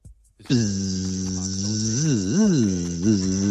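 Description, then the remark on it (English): A steady, droning mosquito-like buzz starts abruptly and holds for about three seconds, its pitch swooping up and down as if flying around, likely a voice imitating the whine of one mosquito in a bedroom while someone lies in bed falling asleep. “A bug. One mosquito's in the room.”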